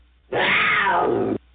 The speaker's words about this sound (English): Before we get started with today's show, we have …. … to give her roar for good radio.